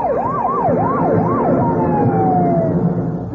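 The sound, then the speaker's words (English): Loud police escort sirens wail in quick rising-and-falling cycles, then give way to a long steady tone that slowly drops in pitch, over a low rumble of traffic, as a two-tone blue four-door sedan speeds down Pennsylvania Avenue. “A two-tone blue four-door sedan is speeding down Pennsylvania Avenue and coming this way with the police escort.”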